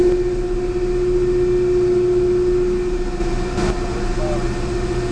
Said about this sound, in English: These new motors, like I was saying, they're like a drill motor, only they're big. You see, they're a lot bigger.